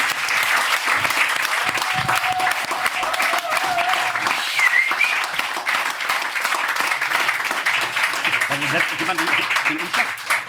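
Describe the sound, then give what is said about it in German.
A crowd applauds the announcement of monthly charity donations to a kindergarten, hospice, animal shelter and other causes. The applause is steady for about ten seconds, a dense, continuous patter of many hands clapping at an even, loud level, with a few faint voices and brief whistles mixed in. “Dafür natürlich ein mega fetter Applaus”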